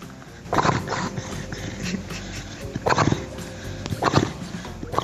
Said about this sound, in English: So we called on you to share your strange pet sounds with us. Here's just a sample. First, listener Coco's Beagle BB, a.k.a. Beagle Brendan, snoring.